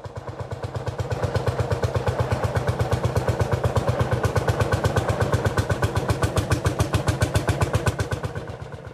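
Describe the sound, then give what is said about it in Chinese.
A tractor engine chugs loudly, catching almost at once after being hand-cranked with its exhaust pipe removed, then running with a rapid, steady pounding beat that holds for the whole stretch, in a snowy field, with no voices. “这时拖拉机突然嘣嘣嘣欢叫起来，声音清脆响亮，响彻茫茫雪野。”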